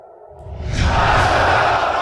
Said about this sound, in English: Iran's hardliners flexing their muscles, screaming death to America and death to Israel at Tehran's main Friday prayers.